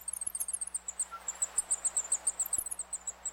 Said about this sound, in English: Researchers noticed that zebra finches make a special high-pitched call, called a heat call, when sitting on their eggs and temperatures rise above 84 degrees.